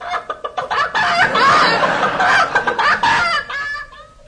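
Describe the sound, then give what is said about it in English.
A chicken clucks, quick choppy clucks building into a loud, drawn-out squawking cackle before trailing off into a few more clucks, with no other sounds around it. “chicken.”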